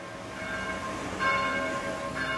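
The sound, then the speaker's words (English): Church bells of Saint-Christophe de Javel Catholic Church in Paris's 15th arrondissement, France, peal steadily to call the faithful to Sunday morning mass, their overlapping tones ringing out with a sustained, resonant hum, a fresh strike swelling the sound partway through, with no voices present. “Bells call the faithful to Sunday morning mass at Saint-Christophe de Javel Catholic Church in Paris's 15th arrondissement.”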